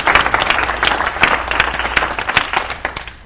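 A crowd applauds steadily, many overlapping hand claps forming a dense, loud patter that holds for a few seconds with no talking over it.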